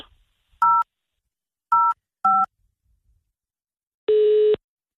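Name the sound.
telephone number being dialed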